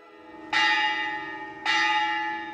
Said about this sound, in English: Puja at the Sri Mariamman Temple begins with the ringing of the bell at the entrance, which is believed to announce the arrival of the deity.